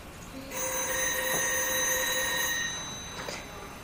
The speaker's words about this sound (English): We'll let them answer the phone first.